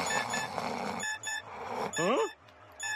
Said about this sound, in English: But eventually, Homer is sleeping, and an alarm goes off.